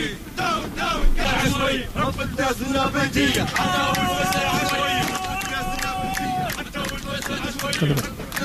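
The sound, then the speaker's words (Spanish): A lively outdoor crowd of rebels in Libya, celebrating the capture of Misrata airport, shouts and cheers in a dense, continuous hubbub, with several voices raised in prolonged excited cries above the noisy babble throughout. “Los rebeldes celebran la conquista del aeropuerto de Misrata.”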